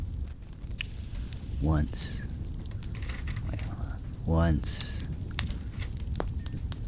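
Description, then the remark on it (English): Steady campfire crackling with scattered sharp pops over a soft hissing bed, even in volume; a voice briefly speaks over it twice. “All right, this is the campfire.”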